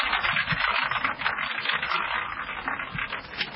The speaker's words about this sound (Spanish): Viste que vamos a tirar este bolillero que tengo acá, que es como una especie de ruleta, y vamos a ver qué provincia me toca.